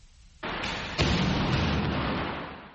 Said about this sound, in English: At the Tamale International Airport in Ghana, troops engage in a simulated gunfight. This drill is part of the U.S.-Africa Security Partnership that aims to bolster efforts to combat terrorism in the region.